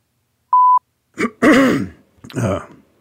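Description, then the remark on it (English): A brief electronic beep, then someone with congestion clears their throat in several harsh, rasping bursts, fairly loud, with no talking. “I may be clearing my throat a bit here today. I got some congestion.”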